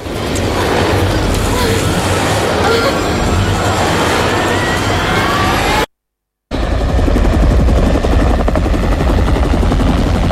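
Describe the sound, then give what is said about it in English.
A helicopter roars with a steady, dense rotor thrum, broken by a brief moment of silence before the loud whirring resumes. “40-ish Preston climbs out of the chopper.”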